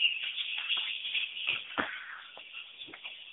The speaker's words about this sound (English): Right, look at this. Look at the sound of the punches. This is me punching the U.S. Marine.